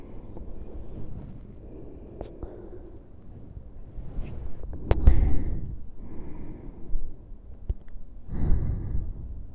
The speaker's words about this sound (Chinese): 我要睡了。说，耳边有我的呼吸声会。